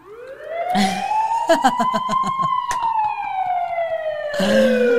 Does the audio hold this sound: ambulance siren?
yes